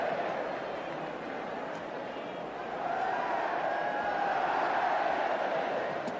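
The Leeds United home crowd at Allen Road roars during a match against Southampton in a dense, steady wash of cheering that swells louder halfway through, with faint sustained chanting tones rising above the din.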